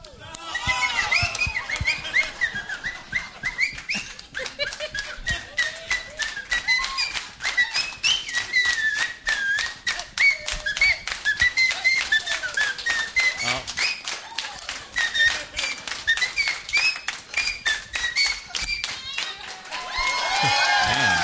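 A person whistles a lively, wavering tune for about twenty seconds while a crowd claps along in a steady, rapid beat throughout.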